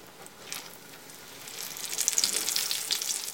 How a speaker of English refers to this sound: and then just dip the eggplant slices one by one, first in the egg and then in the breadcrumbs. And then place it in the hot oil, cook it for about 5-10 minutes on one side until it's lightly browned, then flip it over and cook it on the other side.